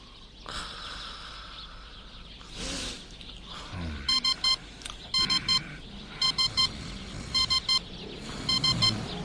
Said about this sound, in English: Shut up, alarm clock.